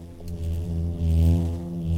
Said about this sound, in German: Das Summen, das kennt man ja auch von anderen Insekten, das liegt am Flügelschlag. Also die bewegen ihre Flügel mit sehr hoher Frequenz und dadurch entsteht so ein summendes Geräusch. Auch Hummeln, Wespen und Hornissen brummen, summen. Hummel?